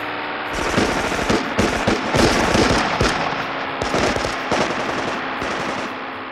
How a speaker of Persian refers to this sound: یه بار داشتیم یکی از بچه‌ها رو که مجروح شده بود به بیمارستان می بردیم. تو همون بین به طرف ما تیراندازی شد. نیروهای تروریستی کموله حتی به مجروحا و بهیارها هم رحم نمی کردن.